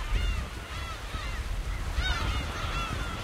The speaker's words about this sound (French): Il y a tous ces oiseaux de mer sur des bancs de sable au milieu du canal qui remonte vers la ville.